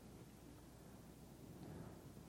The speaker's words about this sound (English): What's this water? It's rain. Oh no. And torrential downpour.